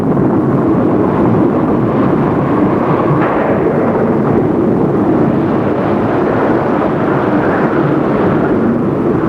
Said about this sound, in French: Elle ne se souciait ni du tonnerre, ni des éclairs dans le ciel.